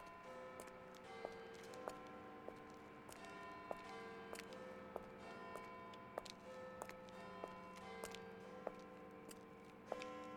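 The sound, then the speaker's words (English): A clock ticks steadily while sustained, ringing chime tones hang over it, fairly quiet, with no voices. “Yes, chime all you like, good sir, but the night is still young for myself.”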